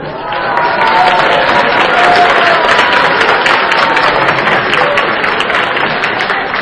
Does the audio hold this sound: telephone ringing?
no